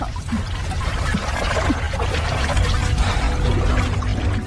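Continuous splashing and sloshing of water as someone swims through it, steady and fairly loud for several seconds with no voices.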